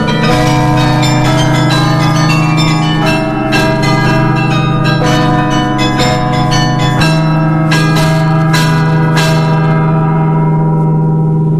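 The 49-bell carillon at the top of the 83-metre Belfry of Mons, played by a carillonneur, rings out a melody, its bells struck one after another in a steady, lilting rhythm. The tones are loud and resonant, with a long ringing hum beneath. No voices are heard.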